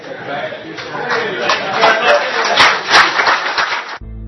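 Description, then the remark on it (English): A crowd claps for Ted Yoho's remarks about voting in a dense, steady patter of many hands, mixed with murmuring voices, for about four seconds before cutting off abruptly. “Listen to the clapping little idiots.”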